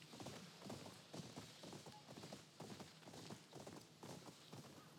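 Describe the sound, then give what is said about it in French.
Steady horse hooves clip-clop at a brisk riding pace in a video game as the character rides a horse, a continuous rhythmic series of fairly loud hoofbeats with no talking over them. “donc là on va chevaucher”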